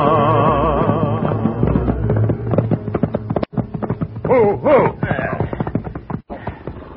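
Horse hooves clip-clopping in a steady, uneven patter at moderate loudness, mixed with tonal, wavering background sounds and brief sharp knocks.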